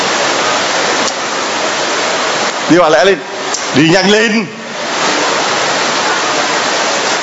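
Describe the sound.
Heavy rain pours down in a steady, loud hiss that fills the whole clip, while a voice briefly calls out twice over it in the middle.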